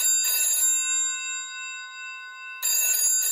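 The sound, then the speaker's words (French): An old-fashioned telephone bell rings in two loud, rattling bursts for an incoming call, its metallic tone lingering between them. It sounds clear, with no one speaking. “Un jour, Marcel reçoit un étrange coup de téléphone.”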